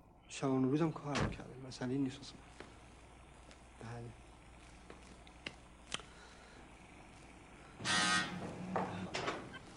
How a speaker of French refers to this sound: Alors, pour faire cela, nous les avons synchronisées sur le coup de sonnette qu'on entend évidemment à l'extérieur et à l'intérieur.